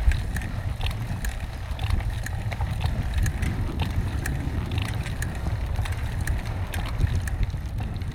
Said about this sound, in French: Notre trajet à tandem nous amène de Bamako à Sikasso, situé à 400 km plus à l'ouest. Nous luttons contre l'harmattan, ce vent du sel qui souffle sans discontinuité dans la direction opposée à la nôtre.